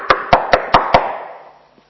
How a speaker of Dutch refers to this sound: En die avond klopte die cipier op de deur van mij, op de luik van mijn deur. Ik hoorde dit.